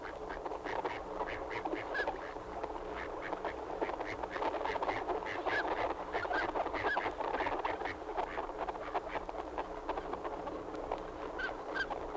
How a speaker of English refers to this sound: That was the sound of a flock of wild ducks in Florida.